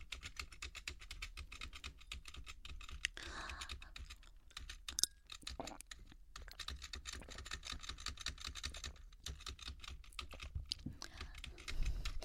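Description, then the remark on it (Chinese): Rapid, steady clatter of a computer keyboard as someone plays a computer game, keys tapped in quick irregular bursts for the whole stretch, with no voices. “你别玩了，等一下我把键盘都给你拿走。”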